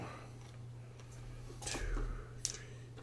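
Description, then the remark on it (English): A short burst of small clattering clicks as a handful of dice are dumped and tumble across a glass table, ending in one sharp tap, fairly quiet over a steady low electrical hum. “I'll squeeze one out when I dump these dice on the table.”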